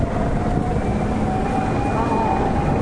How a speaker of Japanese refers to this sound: 1台2台3台ぐらいのヘリがこの辺を巡回してます。 ってことは大きそうですね。 消防局のやつが少なくとも1台はありました。 うん、ありましたね。 さっきホバリングしてたのは多分そう。 そうですね。 あとはあれじゃね、テレビ局かな。